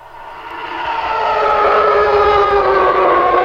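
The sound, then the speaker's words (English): A TIE fighter engine effect made from an elephant's call and cars driving by on a wet surface: a harsh, howling roar with many layered tones that swells louder over the first second and a half, then holds steady at full volume, with no voices. “There's TIE fighters. Is that the TIE fighter?”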